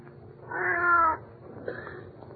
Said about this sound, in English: Well, for the love of Pete, it's just a cat.